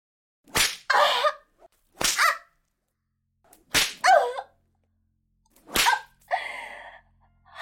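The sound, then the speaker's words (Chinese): Four sharp whip lashes crack at uneven intervals, loud, striking a person's buttocks, each one followed immediately by a short, pained vocal cry. “你的鞭子太厉害了，一下下的抽在我的屁股缝上。”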